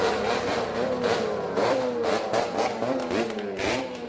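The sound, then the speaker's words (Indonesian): A loud, deafening convoy of motorcycles revs past several state and private university campuses in Solo, Indonesia, on a Wednesday afternoon after vote counting, in a continuous roar, several engines overlapping with rising and falling whines and repeated throttle bursts, with no speech. “Iring-iringan sepeda motor yang suaranya memekakkan telinga melintasi beberapa kampus negeri dan swasta di Solo usai penghitungan suara di berbagai tempat pemungutan suara atau TPS di Solo Rabu sore.”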